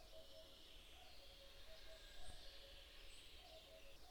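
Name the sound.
blackbird singing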